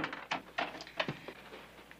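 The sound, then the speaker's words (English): A bedroom door being pulled shut by a father as others leave: a quick series of soft wooden knocks and latch clicks over about two seconds, fairly quiet, with no voices. “Dad closes the door behind them.”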